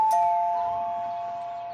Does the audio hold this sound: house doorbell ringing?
yes